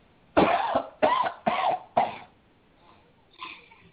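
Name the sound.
deep coughing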